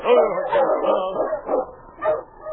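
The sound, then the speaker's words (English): The husky King whimpers plaintively in the snow, a steady stream of high, wavering whines rising into two sharper yelping cries near the end, with no talking. “Sensing death, the mighty husky was uneasy. Sergeant Preston noticed his plaintive whimpering.”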